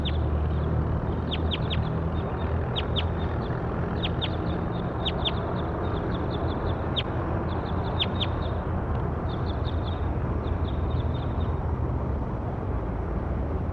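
bird calls

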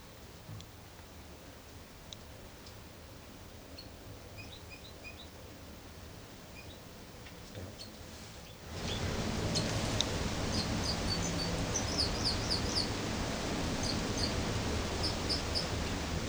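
bird singing

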